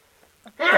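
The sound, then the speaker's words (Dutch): A single sharp sneeze, preceded by a brief quick intake of breath, bursting out loud before cutting off. “gezondheid.”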